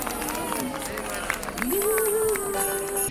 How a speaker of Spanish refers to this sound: Venga, un aplauso para todos vosotros.